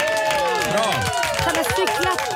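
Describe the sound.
A small group claps briefly, with voices cheering and whooping over the scattered applause, all fairly close and lively for a couple of seconds.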